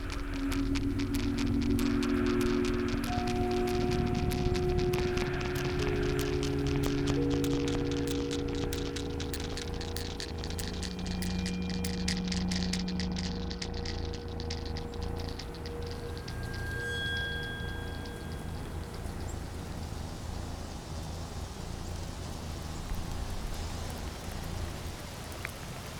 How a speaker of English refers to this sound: I woke up the next morning to the popping sound of heavy raindrops on the tent roof. I felt exhausted, and it was storming in earnest now.